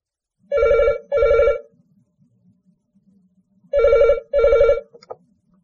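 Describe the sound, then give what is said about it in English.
A telephone rings in the classic double-burst pattern: two short, loud, buzzy trills, a pause of silence, then two more, with a brief click at the end. “Kitty and Peter are talking on the telephone.”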